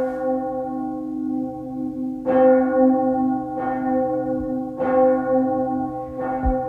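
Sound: church bell ringing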